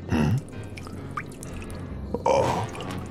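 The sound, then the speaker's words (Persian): Water spills and drips in two short splashy bursts, one at the start and another near the end, with scattered small drips between, and no one speaking. “بعید میدونم این آب دیگه به دردت بخوره.”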